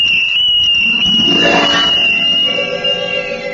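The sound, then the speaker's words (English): A shrill little tin whistle is blown in one long, piercing, steady note lasting several seconds, with a brief upward swoop midway and a lower tone joining near the end. No one speaks. “And I took advantage of every opportunity to express my defiance through its shrill voice.”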